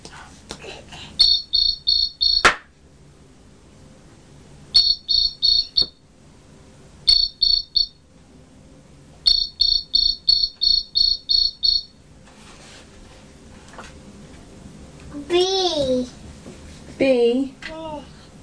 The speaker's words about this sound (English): What was that? Noise. What's that noise? Cricket.